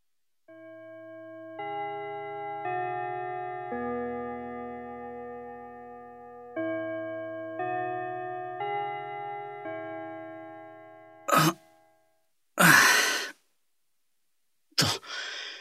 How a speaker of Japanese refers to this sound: チャイム鳴ったし、そろそろ帰るか。